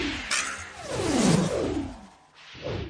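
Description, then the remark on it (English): An arrow whooshes from a bow in one loud, sweeping pass that falls in pitch as it flies off, followed by a softer rush near the end. “Draw the string. Sink the arrow.”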